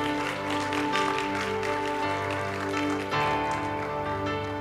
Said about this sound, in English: Can somebody clap their hands? Can somebody celebrate?